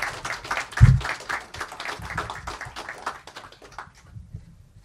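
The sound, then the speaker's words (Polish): An audience applauds with a steady, fairly even patter of clapping, one brief low thump early on, before the applause thins and fades out near the end. No one speaks. “Prosimy o brawa, tak.”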